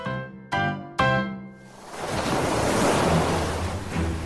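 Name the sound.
ocean waves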